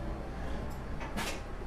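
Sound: door opening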